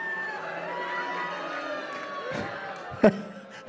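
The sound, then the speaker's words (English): A live audience at the Benson Ball Comedy Festival in Washington, D.C. boos at the mention of the government shutdown. It is a steady, low, droning chorus of many voices that holds for several seconds, ending with a short sharp burst of noise. “I think you're booing the government.”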